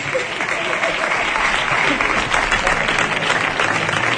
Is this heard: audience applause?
yes